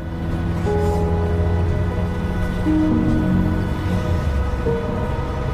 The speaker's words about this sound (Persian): اتوبوس راه میفته.